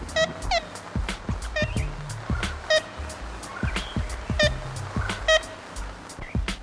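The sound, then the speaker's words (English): Archive recording from the Macaulay Library at the Cornell Lab of Ornithology of ivory-billed woodpecker calls: short, nasal, tin-horn-like toots repeated singly and in quick pairs, bright and harmonically rich, over a steady rumbling background hiss. “Thanks to archive recordings from the Macaulay Library at the Cornell Lab of Ornithology, we can still hear the sounds of that woodpecker.”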